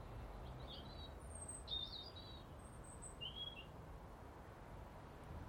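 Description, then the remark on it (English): Two or three small birds chirp in the morning in a few short, high, thin bursts, scattered irregularly over a steady low rumble of background noise. The calls are faint and no one speaks. “And a wee birdie. Two wee birdies. Maybe three.”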